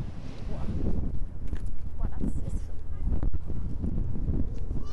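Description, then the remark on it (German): Busy harbour pier ambience at the Landungsbrücken, a ferry landing and 688-metre promenade: steady wind buffeting the microphone, water lapping, and a crowd murmuring, with occasional knocks and clatter throughout. “Und so klingt es im Moment bei den Landungsbrücken.”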